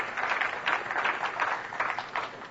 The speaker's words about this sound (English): I think, should we give her a round of applause just for having to do that 24 times?